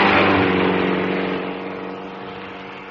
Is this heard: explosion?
no